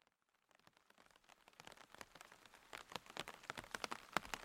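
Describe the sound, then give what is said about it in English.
Heavy rain fades in from near silence and builds into a dense, steady patter of countless drops, with sharper splashes popping out of the constant hiss. No voices. “It started 3 days before Halloween, an unrelenting torrent of rain the likes of which I'd never seen in all of my, at the time, 14 years.”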